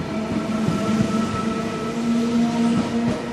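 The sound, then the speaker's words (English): A commuter train on an old rail line rumbles steadily along the rails, a dense, continuous roar with a droning engine hum and faint rhythmic knocks of wheels, loud throughout, with no voices. “But the train has its limits too.”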